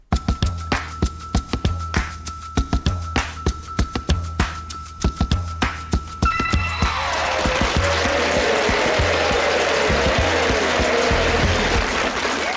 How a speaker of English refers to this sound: Now, you're probably wondering if that was fake applause at the start of the show, like the crowd noises you get at the Premier League. No, we have a live audience